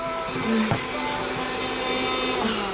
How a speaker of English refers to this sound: You know it's bad, right, when you're hoovering out the tea bag drawer